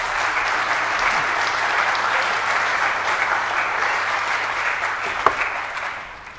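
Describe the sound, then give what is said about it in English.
An audience claps steadily for a woman, a dense wash of many hands that holds its level for several seconds before tapering off at the end. No one speaks over it. “Let's give her a big clap.”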